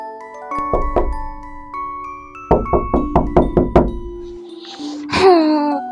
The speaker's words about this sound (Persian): همه به سمت خونه جوجه تیغی دویدند. صدای کوبیدن به در بلند شد.